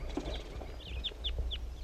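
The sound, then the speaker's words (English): A wild male bird sings a short series of high, clear chirping notes, four or five in quick succession, over a steady low outdoor rumble. “wild male bird that was just singing.”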